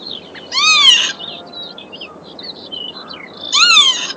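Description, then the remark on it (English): A bird song played from a phone app, near the M621, sounds twice, each a loud, harsh, descending screech about three seconds apart, with faint thin chirps and a steady background hiss between them and no talking. “I've got an app that plays all the bird songs.”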